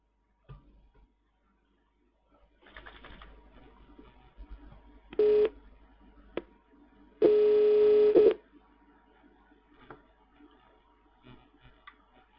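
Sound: telephone call tones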